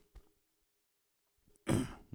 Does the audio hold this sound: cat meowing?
no